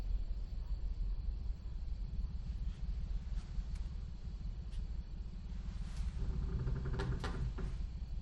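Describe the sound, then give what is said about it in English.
A cupboard door bangs shut with a sharp wooden knock, followed by a couple more clattering thuds, all over a steady background hiss. “The open cupboard door slams shut.”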